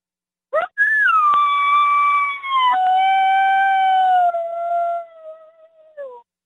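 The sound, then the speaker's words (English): A long, drawn-out coyote howl made on a predator call for calling coyotes, rising sharply then holding a steady wavering tone for several seconds before dropping off at the end. Loud, no talking. “another sound you want for your coyotes is your long howl.”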